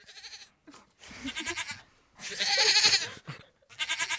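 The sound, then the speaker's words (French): A goat bleats about four times in close succession, each call loud, nasal and quavering, with short pauses between them and no talking. “excité par toutes ces voix de femmes, d'hommes, et parfois même de chèvres, la preuve ?”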